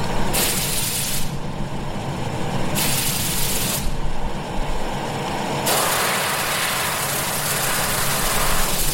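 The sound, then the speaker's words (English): Glass blowing by a master glassblower at the World of Glass in St. Helens: a steady, heavy low roar runs throughout, broken by three long bursts of bright, breathy hissing, the last lasting to the end. No one speaks. “So we're going to bring out for the canage and play some glass blowing.”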